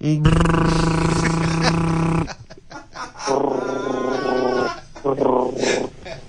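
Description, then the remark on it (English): A child buzzes their lips to imitate an engine while running around a garden with arms out, one long steady rumble followed by two shorter buzzy bursts, loud. “Yes, some more. That's your engine.”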